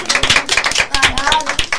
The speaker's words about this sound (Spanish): Muy bien, aplaudiros a vosotros mismos.